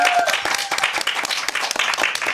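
A crowd applauds steadily, many hands clapping in a dense, continuous patter that stays loud and close throughout, with a brief fading musical tone at the very start.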